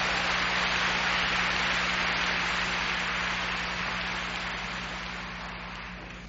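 A large audience applauds warmly in a dense, steady wash of clapping with no voices, holding strong for several seconds before slowly tapering off toward the end.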